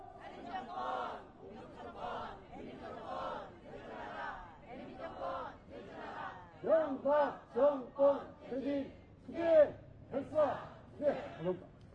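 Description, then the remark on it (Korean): A crowd at a workers' protest rally shouts in unison, loud rhythmic bursts of voices that grow more emphatic in the second half, like cheering and chanting slogans together. “예, 큰 박수 부탁드립니다.”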